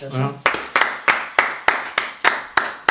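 A short spoken sound gives way to a single person clapping their hands, about nine sharp, evenly spaced claps at a steady, moderate pace, each one loud and crisp.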